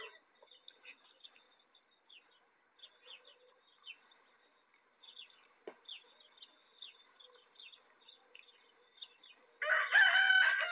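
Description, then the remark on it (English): Small birds chirp and tweet faintly for several seconds, then a pet rooster lets out a loud, close crow at the very end, with no one talking. “There's the rooster again.”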